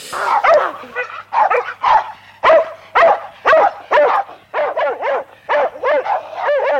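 animal, farm dog barking

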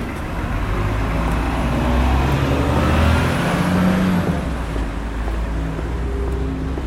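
vehicle, city bus driving

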